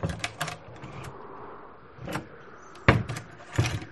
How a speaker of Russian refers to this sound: Стражники остались на улице, а Александр Иванович постучал в оконце. В избе долго никто не откликался, а потом тихо скрипнула дверь.